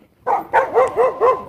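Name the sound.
dog barking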